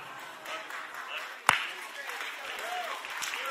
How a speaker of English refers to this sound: I'm worried because I pay you to clap and you're the only one clapping.